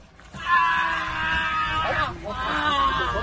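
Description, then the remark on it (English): A person in Germany screeches in two long, strained, high-pitched wails with a brief break between them, loud, the pitch wavering and rising as each cry drags on. “Just a screeching leftist?”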